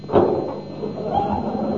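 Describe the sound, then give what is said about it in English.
A single solid thump of a car door shutting as a man in a chauffeur's uniform gets into the car, followed by a low, muffled rumble and faint shuffling as the sound settles. “Now, he'll get into the car.”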